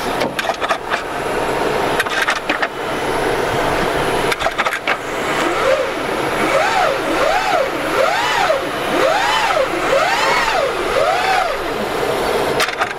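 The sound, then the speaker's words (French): An electric car motor gives off a whistling gear whine that rises and falls in about six quick, regular swells, over a steady mechanical hum with a few clunks near the start, heard as the car is put into gear while the driver keeps a foot on the brake. “tu sens les pignons qui se cherchent en fait à chaque fois, et le moteur électrique qui fait ce petit bruit”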